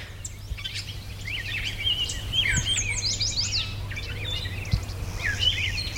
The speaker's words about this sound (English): And some starlings. The sort of squealy sounds are squealy, grunty sounds are starlings.